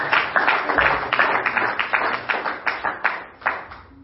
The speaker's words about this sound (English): Could you clap your hands again?